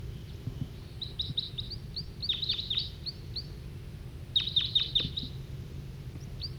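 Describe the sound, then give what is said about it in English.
A wild bird coming in gives flight calls: quick bursts of short, high chirps, several in a row, repeating in clusters over a low background rumble, with no talking. “Another wild bird's coming in, giving flight calls.”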